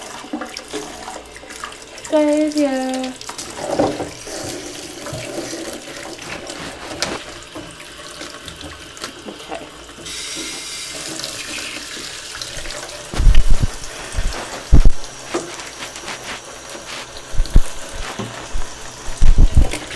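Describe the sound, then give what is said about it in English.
Tap water gushes steadily into a bathtub, a continuous hiss of running water, with a brief voice early on and a few dull thumps and splashes later. “And I'll run the bathroom.”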